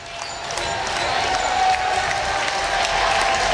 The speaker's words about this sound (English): And here is the Lumen crowd out in full force here at Ithaca High School, making a whole lot of noise.